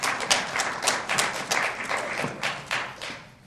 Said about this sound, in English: I don't know whether I should note this, but the person clapping the loudest is one of our loyal supporters who is a former Navy captain.